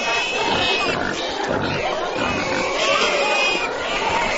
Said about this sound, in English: The Toka Festival celebrates the end of warfare between rival clans, and pigs are at the center of it. To attend, each village must bring some to the party. And that's a lot of pigs.